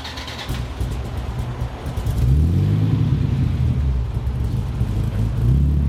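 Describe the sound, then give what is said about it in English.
A turbocharged five-cylinder car engine turns over and catches, then settles into a deep, steady rumble with rising harmonic sweeps as it revs, loud, with no voices. “You're only going to get five cylinders over here, but they're healthy.”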